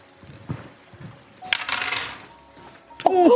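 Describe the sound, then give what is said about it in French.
Dice clatter and tumble across a hard tabletop, rolled for a poison check in a game. A brief rattling roll is followed by a few sharp, ringing clicks as they settle. No one speaks. “Fais un jet en poison.”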